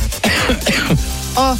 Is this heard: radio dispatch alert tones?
no